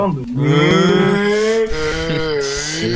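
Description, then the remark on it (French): A cow lets out one long, loud moo that holds steady for about three seconds, with no one talking over it. “Est-ce que Romano va lui sortir aussi, hein, une vache sur Sky, toi. C'est qui? Une vache.”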